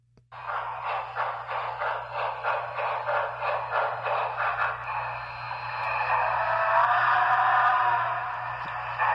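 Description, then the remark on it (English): The sound system of a model railroad locomotive over 2.5 feet long, with three circuit boards and about 8 years old, plays steady, rhythmic steam-engine chuffs about three per second, which give way to a loud continuous hiss of escaping steam over a constant low electrical hum. “this locomotive, this model railroad, this locomotive, is over 2.5 feet long, has a complete sound system in it”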